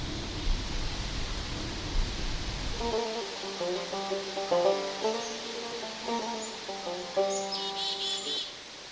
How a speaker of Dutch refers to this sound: Het gaat nu lekker waaien. Ja, de wind hoort ons.